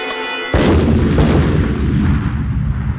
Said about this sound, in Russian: как 32 года назад взорвали в Куйбышеве бронзового маршала Устинова